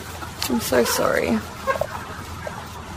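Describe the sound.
Chickens clucking in a busy poultry shed on a chicken farm, short overlapping calls against a constant noisy background hum, with a voice speaking.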